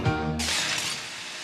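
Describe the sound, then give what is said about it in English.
A loud glass smash recorded as a sample for the Fairlight sampler: a deep low thud at the start, then a bright, noisy shattering burst that rings on and slowly fades, heard alone with no voices. “the great glass smash that's about 2 minutes in on …'s …”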